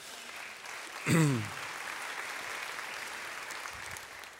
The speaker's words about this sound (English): That applause was like, yes, please be loving